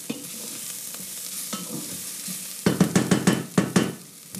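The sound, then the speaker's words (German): Spices fry in a little oil in a hot pan with a steady, hissing crackle, then a quick run of about eight rhythmic scraping strokes as a spoon stirs them. No one speaks. “Jetzt wecken wir noch die Gewürze kurz auf. Die sollen kurz da drin braten, damit die auch schön munter werden.”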